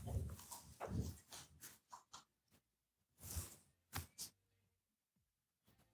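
A dog barks repeatedly in short, irregular bursts, fairly loud, with brief pauses between barks and no talking.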